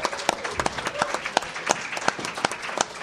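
An audience applauds a man on a panel, steadily, many hands clapping in a dense, crackling wash with sharp individual claps popping out, moderately loud and sustained for the whole few seconds.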